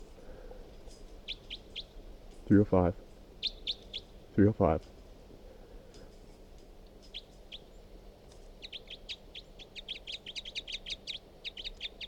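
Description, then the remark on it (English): Field recording of bird number 362: bursts of short, high-pitched chirps, quickening into a rapid run of notes near the end, while a voice briefly speaks twice over them. “Start recording bird 362.”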